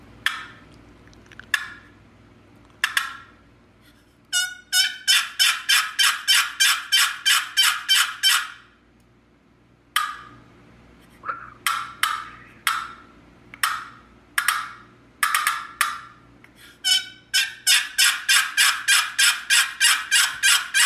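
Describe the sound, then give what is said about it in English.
A wooden box call, which rubs two pieces of wood together, imitates a hen turkey's assembly yelp: loud, raspy yelps in long rhythmic runs, with short pauses between series and no talking. “showed us some of his award-winning turkey calls. This one's called an assembly yelp.”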